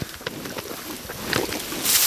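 Zebu cattle munching contentedly in a forest clearing near Ulm-Eggingen, with irregular wet chewing and smacking noises over a steady breezy rustle that swells louder toward the end. No one speaks.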